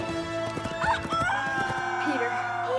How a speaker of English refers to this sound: Elsewhere, Tiger Lily's white horse gallops.